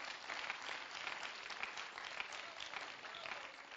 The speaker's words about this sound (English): Oh, I think we've got to clap our hands and give praise to the Lord.